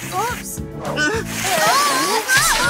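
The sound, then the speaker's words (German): A burst of water spraying from a fire-rescue dog's water nozzles in an elevator, with splashing and sloshing, running under lively speech throughout. “Aber der Wasserstrahl war schon losgegangen.”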